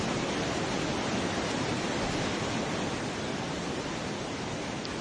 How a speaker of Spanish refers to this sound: Uno oye esto, dice agua, un río. No es tanto un río, ¿no? ¿Qué es? Es una cascada que se llama Gullfoss, la cascada dorada. Es la más famosa de Islandia y es un doble salto de agua de 32 metros que cae sobre un desfiladero